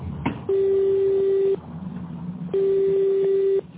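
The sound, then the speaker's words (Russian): A telephone ringback tone with no answer: two long, steady mid-pitched tones, each about a second, separated by a second-long pause over faint line hiss. No one speaks. “Пока что абонент не отвечает.”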